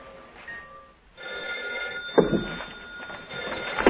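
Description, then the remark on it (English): An old telephone is dialed to call New York and then rings, with steady tonal ringing and a few sharp clicks breaking through, fairly clear with no voices. “Yes, yes, I'm calling New York.”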